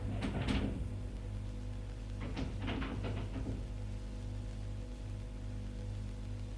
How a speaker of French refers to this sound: Prends la clé dans la poche et va la mettre dans la serrure. Mets la clé dans la serrure.